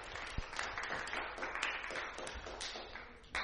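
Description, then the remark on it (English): Quiet, half-hearted audience applause: a steady patter of many hands clapping for a few seconds, fairly soft and even, with no voices over it. “It's nice to applaud, but if we're going to do it, let's do it with a bit of enthusiasm.”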